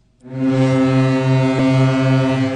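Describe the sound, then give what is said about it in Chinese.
The horn of the 30,000-ton ro-ro passenger ferry Jilongdao sounds one deep, loud, sustained blast, rich in harmonics, as it departs Dalian Bay passenger terminal in Dalian, Liaoning, at 9:40 am, bound for Yantai, Shandong, on the first day of the 2025 Spring Festival travel rush; it begins abruptly and holds steady, with no voices. “上午9:40，3万吨级大型滚装客轮吉隆岛号从辽宁大连准时鸣笛起航。”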